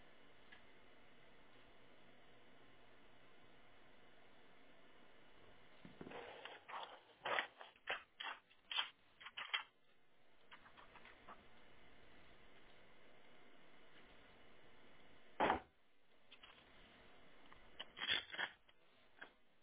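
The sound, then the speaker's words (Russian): Rustling and clattering of someone rummaging through objects for paper and a pen to write down a number during a phone call, irregular bursts of handling noise and small clicks in two flurries over a faint steady hiss, with no talking. “Так, я сейчас бумагу найду с ручкой.”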